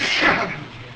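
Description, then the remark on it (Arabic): A single sharp, breathy sneeze bursts out, a brief noisy blast that fades quickly into faint background noise. “رحمك الله.”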